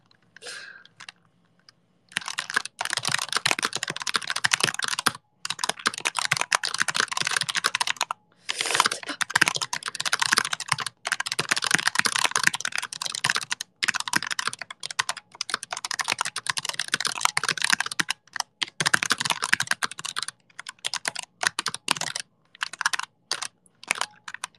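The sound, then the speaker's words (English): Loud, rapid typing on a computer keyboard, a dense stream of sharp key clicks in long bursts with brief pauses, with no voices. “He didn't find out how loud he types until several months later”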